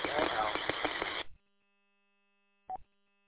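About a second of loud, band-limited radio static hiss with crackly pops on a radio transmission from station FHCLL cuts off abruptly into silence, followed a moment later by a short tonal blip of noise.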